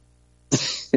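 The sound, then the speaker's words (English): After a moment of silence, a loud, harsh cough bursts out, rasping for a beat, followed by the start of a second forceful cough. “About every morning when I get up, I'm coughing my fucking head off.”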